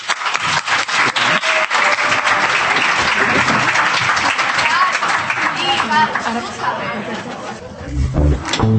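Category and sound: crowd, applause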